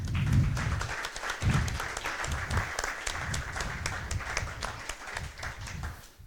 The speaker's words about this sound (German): Die das hier möglich machen. Ja. Einen großen Applaus erstmal.